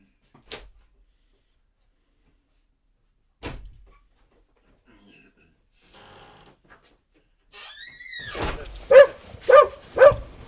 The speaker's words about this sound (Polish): Przepraszam, niech on wyjdzie. Pies chce wyjść? No, chce wyjść. Idź. Dobrze, dobrze.